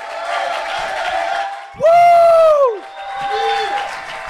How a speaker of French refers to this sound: On peut l'applaudir dès à présent et jusqu'ici, les amis.